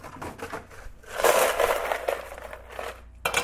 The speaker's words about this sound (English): First, I take some ice cubes from the freezer.